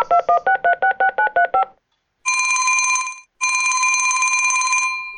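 A rapid run of about nine short touch-tone beeps as Muri the tomcat keys in a phone number to call his friend Muca Maca, who lives across town, followed by a pause and then two long, loud ringing tones on the line. No voices.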